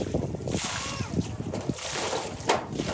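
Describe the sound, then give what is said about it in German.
Water is scooped and splashed in a few uneven sloshing bursts about a second apart as a war-wounded man scoops floodwater with his one remaining arm from a small pool right in front of his refugee tent after a night of heavy rain, with a voice talking over them and faint wind in the background. “der im Krieg schwer verwundet wurde, schöpft mit dem Arm, der ihm noch verblieben ist, Wasser aus dem kleinen See unmittelbar vor seinem Zelt.”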